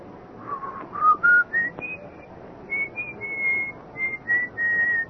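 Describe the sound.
Someone whistles an old tune a little after midnight, a slow, wandering melody rising step by step and then holding long, steady notes, clear against a faint low rumble of background noise, with no talking.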